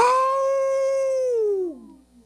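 A single wolf howl holds one long, steady, clear note, then slides downward and trails off. It is fairly loud, heard alone with no voices.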